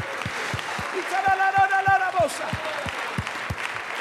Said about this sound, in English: Oh, come on, let's just clap our hands just for a few more seconds. I promise you, God is going to do something here this morning. Oh, come on, clap your hands.